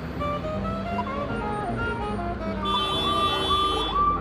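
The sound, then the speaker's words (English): A bus and a fire engine following it pass by in heavy street traffic, a loud engine rumble thickening as bright, sustained siren tones cut in over it partway through. “Here comes a bus being chased by the fire brigade.”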